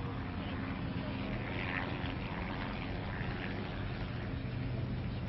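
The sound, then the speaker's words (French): A steady, droning rumble of helicopters circling tirelessly over Colombey, heard from the church square as a funeral cortège approaches. The engine and rotor noise is continuous and holds at an even level throughout, with no clear pauses. “Le silence de la place est seulement troublé par des hélicoptères qui tournent inlassablement au-dessus de Colombey.”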